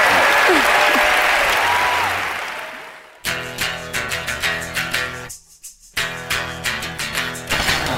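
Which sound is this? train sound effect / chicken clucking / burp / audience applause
audience applause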